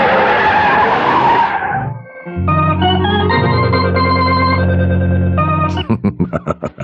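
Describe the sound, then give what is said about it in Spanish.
A loud, rushing tire skid from Calimán's car speeding downhill on a road with failed brakes fills the first two seconds, then cuts to a sustained dramatic musical chord that ends in a series of rapid pulsing stabs. “¿Cómo impedir su muerte a bordo del auto a velocidad vertiginosa?”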